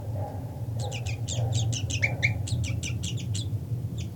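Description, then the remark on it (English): A rapid series of sharp, high-pitched bird alarm calls, repeated in quick bursts over a steady low background hum, with a few scattered calls at the end. “Okay, alarm calls by 3-3.”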